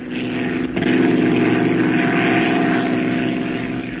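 A steady, droning airplane engine hums continuously as if heard from inside the cabin, loud and even, with a slight swell in intensity about a second in and no voices.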